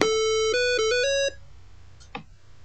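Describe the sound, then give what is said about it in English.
A device plays a short electronic melody of steady beeping tones at shifting pitches after reset is pressed, signalling that a firmware upgrade has started. It lasts about a second and a half and is followed by faint clicks and a soft knock. “I'm going to press reset with JK or .45, and you'll hear the following tone.”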